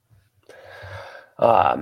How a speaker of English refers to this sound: My dog's actually he's sick. And he's breathing heavy right now.